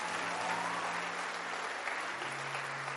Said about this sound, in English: And we all say, let's give a big hand clap to Jesus.